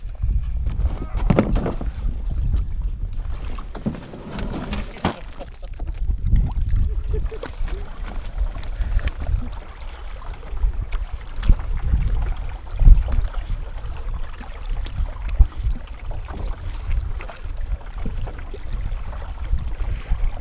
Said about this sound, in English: We're paddling on James Lake. We've just left the cabin where we had had a restful night, at least I did. It's a beautiful weather.